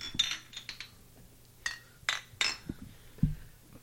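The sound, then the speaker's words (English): Several bright, ringing clinks of glasses tapping together in a toast, spaced irregularly over a few seconds, with softer knocks and rustles in between, moderately loud. “Congratulations. Cheers. Let's get cheers going.”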